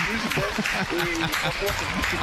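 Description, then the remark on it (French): A crowd applauds steadily in a dense wash of clapping, with excited voices calling and cheering over it, holding at an even, fairly loud level for the whole couple of seconds. “Non, est-ce qu'on peut applaudir?”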